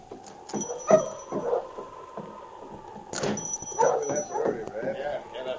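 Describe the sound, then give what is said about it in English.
A sled dog team arriving in town barks and yips in excited, overlapping bursts, several dogs calling at once, with faint voices mixed in among the noisy chorus. “For instance, when he arrived in town with a dog team...”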